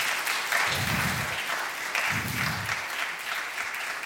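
A crowd applauds steadily, a dense wash of many hands clapping at an even level for several seconds, with faint low rumbles underneath.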